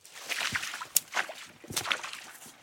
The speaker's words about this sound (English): So here's the water. It's all coming straight out of that mines right there. It's got a dingy, oily, filmy look.